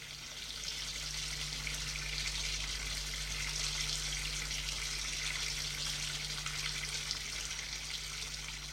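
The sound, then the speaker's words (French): Steady hiss of a shower running in a bathroom as someone takes a shower, spraying continuously with a low constant hum underneath; no voices, the rush stays even throughout. “Reste le regard fixe, puis se lève, va à la salle de bain, prendre sa douche.”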